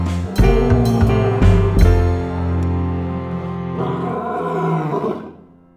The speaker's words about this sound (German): Und wenn der Löwe zornig ist, dann brüllt er ganz schön laut. Den Damen macht das gar nichts aus, sie sind damit vertraut.